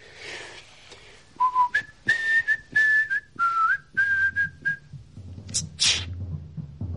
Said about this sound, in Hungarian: Mit fütyülsz, te tökkel ütött? Azt akarod, hogy meghallja a félvilág?